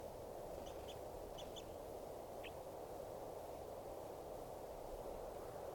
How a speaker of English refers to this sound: It's recording the wild birds who have come in. Looks like about 2 birds are in song.